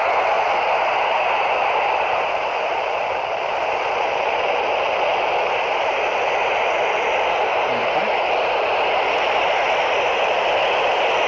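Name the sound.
handheld radio static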